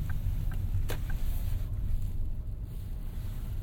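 Car tyres bump against a high curb on the left while parking a long car, giving a few short knocks with one sharper thud early on, over a steady low engine rumble. No one speaks.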